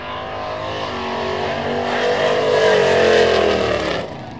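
Loud, throaty engines of nostalgia gasser drag racing cars rev and roar continuously at the World Series drag racing show, the pitch climbing and the noise swelling before cutting back sharply near the end. No one speaks.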